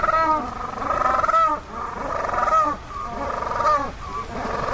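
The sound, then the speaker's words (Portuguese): A penguin calls loudly: harsh, honking brays in a pulsing series, with brief pauses between bursts. No one talks over it. “Então, isto é um pinguim”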